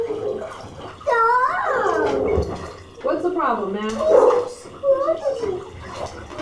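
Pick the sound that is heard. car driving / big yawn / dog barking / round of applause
dog barking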